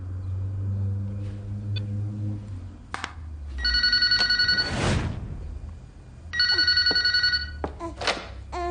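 A telephone rings in two long, loud bursts of rapid electronic trilling, separated by a short pause with a soft rustle and a faint low hum underneath.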